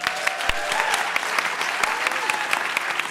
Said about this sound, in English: Before we go, everybody, I want you to give a huge round of applause to our panel.